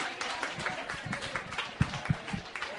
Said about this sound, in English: Hello, welcome to the Narrators, everybody. Give yourselves a round of applause for coming out.